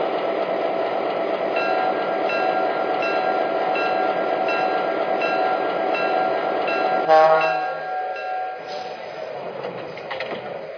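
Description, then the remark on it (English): A passenger train, number 27 arriving from New York, pulls into a station on track 1, its steady, loud rumble building before a sharp squeal of brakes around seven seconds, then the noise settles into quieter clanks and hiss. “Now arriving from New York on track 1, train number 27, the Royal Blue.”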